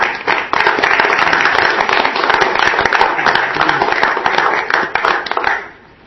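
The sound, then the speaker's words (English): An audience breaks into sustained applause for a commission after a vote, dense overlapping claps at steady loudness for several seconds before quickly tapering off at the end. “I think applause is in order for the commission. Applause.”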